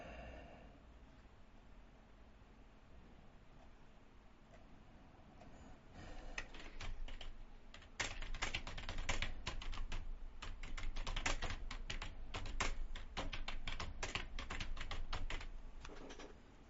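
Rapid, irregular keyboard typing, crisp, with clusters of key clacks that start sparse and quiet, then grow dense and louder for the last ten seconds. No talking.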